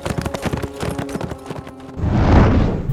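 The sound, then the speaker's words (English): Horse hooves clip-clop in a quick, steady rhythm as a rider rides off, for a couple of seconds before a loud, rumbling burst of noise swells up and drowns them out. No one speaks. “Now he rode on, leaving behind the four trapped men.”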